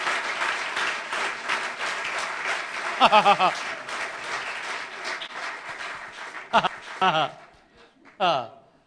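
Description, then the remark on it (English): An audience applauds in a sustained, dense wash of clapping, with excited voices calling out over it and a few louder shouts near the end as the applause thins out. “Give Jesus a hand.”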